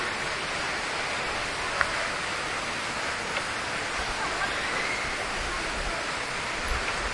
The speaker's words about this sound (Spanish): Se escucha a lo lejos el sonido de las fuentes de agua que hay en el lobby de este hotel